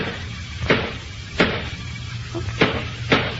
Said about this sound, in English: Squeaky place in the floor. She's fixing it. And I wish she wouldn't. I'll miss it.